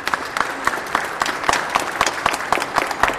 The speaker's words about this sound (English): How about a round of applause for our veterans here?